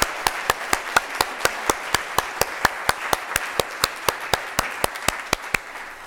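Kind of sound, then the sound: crowd, audience applauding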